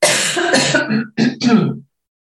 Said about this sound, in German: Und Achtung, Husten.